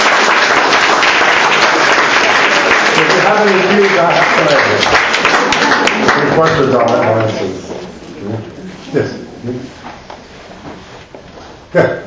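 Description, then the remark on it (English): Dense, steady audience applause fills the first seven seconds, then quickly thins out, leaving scattered claps as voices start talking. “So it's not you that should applaud me, I should applaud you, and I do.”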